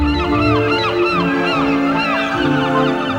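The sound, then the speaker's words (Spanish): A loud, crowded chorus of seagulls calling over one another, with many overlapping squawks and cries filling every moment and no pause, backed by a steady low rumble. “¡Han sido las gaviotas!”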